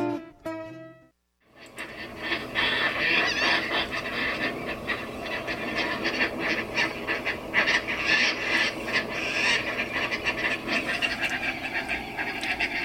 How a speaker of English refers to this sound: That, friends, is the call of the Caspian tern. As large as a big gull, the Caspian tern is the largest tern in the world.